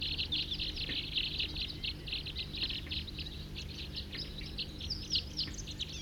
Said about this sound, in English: Here comes a big flock, about 10, 40 on the side here, calling loud, pointed at the wild birds.